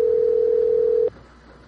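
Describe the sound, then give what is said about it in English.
A telephone's electronic ring tone sounds as one steady, fairly loud burst lasting about a second, then cuts off abruptly into quiet room hiss. No one speaks. “Well, something's ringing.”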